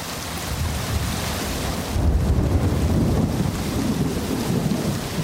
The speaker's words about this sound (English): Rainy season in the forests of Ituri province in northeastern Congo. At its most torrential, a curtain of rain reduces visibility to a few meters.